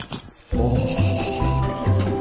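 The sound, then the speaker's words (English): After a short soft rustle and a brief pause, a loud, sustained wet squelch with a low gurgling buzz, like canned dog food sliding out of the can in one slow, sucking glop. “The sound when it comes out of the can.”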